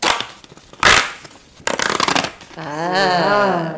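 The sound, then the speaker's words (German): Paper pages of a children's tear-off calendar being opened, with a few loud crackling rustles and a sharp ripping burst, followed by a short drawn-out voiced sound at the end. “So hört es sich auf jeden Fall an, wenn man ihn aufmacht.”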